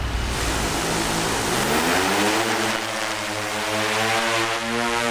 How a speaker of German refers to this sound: einen Hexakopter über ein Maisfeld manövrieren, eine mittelgroße Drohne.